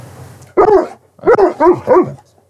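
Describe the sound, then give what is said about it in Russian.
A dog barks four times, one loud bark followed by a quick run of three more after a short pause, with no voices present. “Ну что, чуваки, мы показали наш трек уже собакам, нашим гигачадам.”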